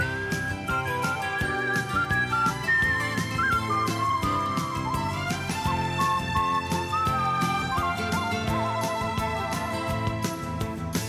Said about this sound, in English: Cue the whistles.